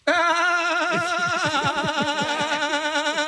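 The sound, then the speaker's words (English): A person imitates a billy goat with a loud, sustained bleat: a single quavering, nasal bray held for about three seconds with a shaky vibrato, with no other talk. “It sounds like a billy goat.”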